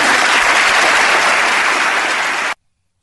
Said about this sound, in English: how about all those Democrats that were applauding what he just said? Right?